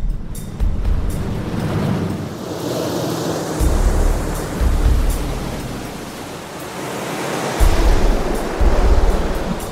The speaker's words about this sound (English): We've sealed up the cockpit area, we've taped it up so it's on there good, it's tight, and we've left the plug open. And we're going to have the water come over the kayak and see just how much water goes into the plug.